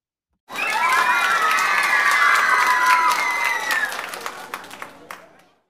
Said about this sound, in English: Give yourself a big round of applause.